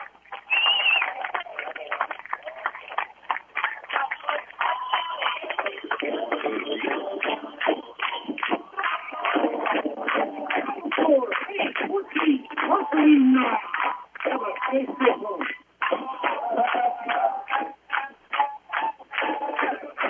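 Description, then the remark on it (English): A dense crowd at a football game, the Fayette crowd after the Fayette Falcons' 14-9 victory over the Marceline Tigers, chatters and murmurs continuously at a fairly steady loud level, with scattered shouts rising out of the din and a few brief dips. “Listen to this fair crowd.”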